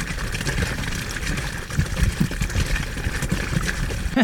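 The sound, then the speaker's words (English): Continuous wet splashing and gurgling from a bowel movement into a toilet after a day of eating a lot of fiber, with thicker low plops and sputters of more solid matter breaking through toward the end. “I was eating a lot of fiber on that day as well too, so you're hearing a little bit more of a solid matter going through there. It's less water and more solid form getting towards the end.”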